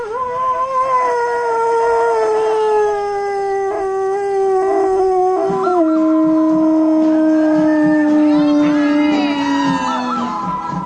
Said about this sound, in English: It's going to blow the Scuba Radio conch. See what it can do.